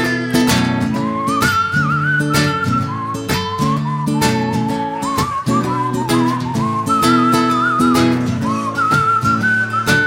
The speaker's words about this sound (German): Jetzt wird doch noch gepfiffen.